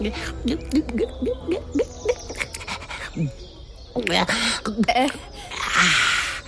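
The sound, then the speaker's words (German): Eager, greedy drinking of water served at an ice cream stand: a quick, steady run of wet slurps and gulps, several per second, pausing briefly before another burst of noisy swallowing. “Sammy erhält sein Wasser und beginnt gierig zu trinken.”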